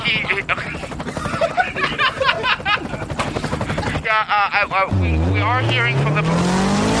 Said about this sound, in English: You know, I've always loved the sound of a helicopter. Can you hear it as well when you're in it?